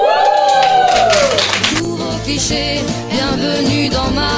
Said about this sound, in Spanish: Sí, un aplauso de verdad, porque esto es una declaración de infinidad de temas que habéis seleccionado.